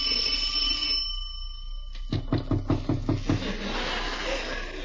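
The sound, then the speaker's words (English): A steady electronic doorbell tone rings for about a second, then after a short pause comes a quick run of six or seven sharp knocks on a door, fairly loud. “Should I ring or should I just knock intimately? I'll do both.”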